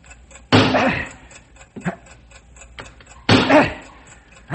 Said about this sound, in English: You've got to drive that wedge in there and stop that ticking. How hard can I hit the wedge? All you've got. Start driving, man. There's no time to waste. Right. Still hear the ticking,